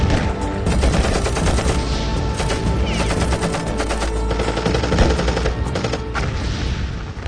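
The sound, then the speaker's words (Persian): Sustained automatic machine-gun fire from Iraqi forces at the front line of Iran's war, aimed at commander Chamran, rattles in rapid bursts throughout, loud and dense, with booming low rumble and overlapping shots suggesting a battlefield barrage, no voices. “دکتر زیگزاگ حرکت میکرد که گلوله ها رو منحرف کنه.”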